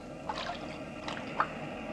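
Soft, steady wash of ocean waves, a low rushing hiss with gentle swells and a few small splashes, no voices.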